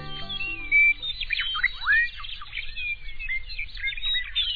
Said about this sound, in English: In summer, the grasslands of southern Saskatchewan resound with birdsong. Meadowlarks and bobolinks combine their voices in a rich, ringing chorus.